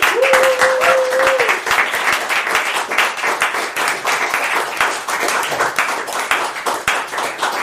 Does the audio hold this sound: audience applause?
yes